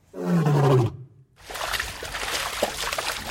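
A lion, at a site in Pakistan holding many lions that is visited on wildlife officials' raids, gives one loud, deep roar lasting under a second, its pitch sliding downward, then a brief silence before a steady rushing, hissing noise takes over. It has been raining and there is mud everywhere.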